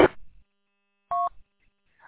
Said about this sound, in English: I don't know if it's me then, because I just heard you, and there was a whole bunch of keying up static or something, and I don't know if someone's trying to hear me and not, or if something's going on.